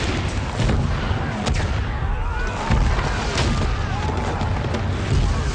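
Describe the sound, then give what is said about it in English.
A barrage of heavy explosions from a strike on tanks in the open rumbles continuously, with sharp blasts punctuating a dense, booming low roar; loud, like a sustained bombardment with crackling debris throughout. “Target. Tanks in the open. Here we go. Those are cool explosions.”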